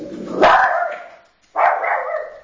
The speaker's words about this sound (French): Ça, c'est notre petit chien qui va évangéliser. Il a dû entendre quelque chose.